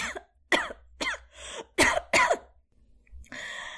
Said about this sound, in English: For a minute, nothing at all happened. Then Inanna coughed.